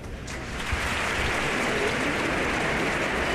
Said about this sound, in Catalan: Una nova ovació per aquestes paraules.